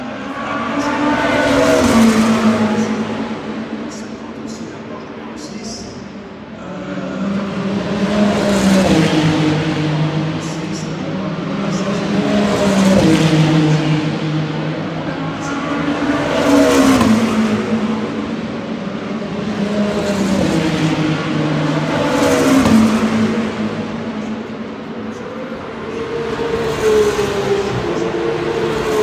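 Racing cars scream down the pit straight one after another, about half a dozen loud passes whose engine pitch rises and falls, echoing off the roofed grandstands, the stand above the pits and the tiers on the other side, with no talking.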